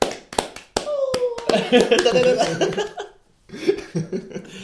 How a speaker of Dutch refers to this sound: Oeh, applaus. Ja.